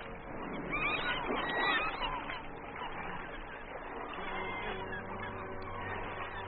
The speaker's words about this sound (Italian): I gabbiani di Cocoa Beach, la desolata spiaggia di Cape Canaveral, volano pigri la mattina del 5 maggio 1961 intorno alla bianca sagoma di un missile Redstone.